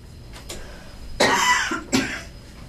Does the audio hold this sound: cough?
yes